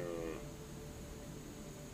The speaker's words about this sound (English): You can hear sheep in the distance.